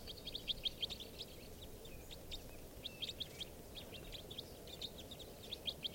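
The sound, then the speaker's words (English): A flock of type 4 crossbills, part of a mixed flock with type 2 and type 5 crossbills and white-winged crossbills, gives repeated short, high chip calls in irregular bursts throughout, fairly faint over a steady low rumble of background noise. No voices are heard. “I hear some type fours now.”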